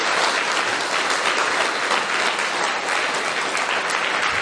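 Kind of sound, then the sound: crowd, applause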